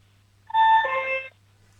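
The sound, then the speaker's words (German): A single two-tone doorbell chime at a home in Vienna, a brighter ding dropping to a lower dong, rings out clearly and fairly loud for about a second, then stops, leaving only a low steady hum. “Und jetzt will ich gerne noch die Türklingel hören.”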